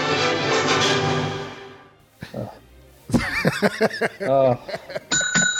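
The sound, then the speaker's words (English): A rich sustained tone fades out, then people talk and laugh before a bright bell rings loudly and steadily right at the end. “Oh, the bell. I was so excited. I was hoping to ring the bell”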